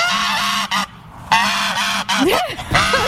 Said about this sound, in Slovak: To je hrozné, to si dám na budík. Je to hus, hej?